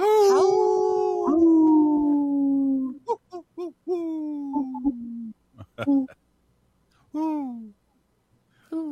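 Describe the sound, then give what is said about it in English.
A voice imitates a wolf howl: one long, sliding wail that sinks slowly in pitch, then a string of shorter, hooting howls and yips, fairly loud. “That sounds more like an owl than a wolf.”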